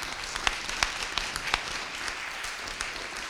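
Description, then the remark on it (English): A crowd applauds two presentations steadily, a dense wash of many hands clapping with a few sharper individual claps standing out, sustained at an even level with no voices. “Okay, so let's actually applaud our two presentations again, because those were”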